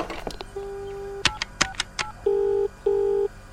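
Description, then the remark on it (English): Telephone dialing sounds: a quick series of clicks and button presses with a steady tone, then two longer electronic beeps, clear with no talking. “Oh, I just need to use the phone.”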